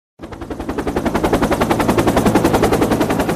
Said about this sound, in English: A helicopter hovering over the French Alps, something usually reserved for lost hikers and injured skiers.